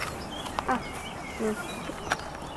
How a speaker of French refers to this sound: Hop, c'est toujours l'hirondelle qui revient.